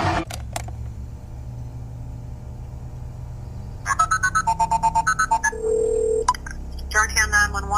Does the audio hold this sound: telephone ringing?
yes